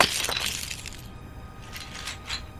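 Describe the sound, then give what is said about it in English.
A shell is smashed open with a loud, sharp crunching crack at the start, followed by a few fainter crackles and brittle fragments settling. No voices. “Okay, but it's such a pretty shell.”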